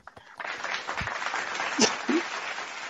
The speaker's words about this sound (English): hit the claps. Hit that clap thing.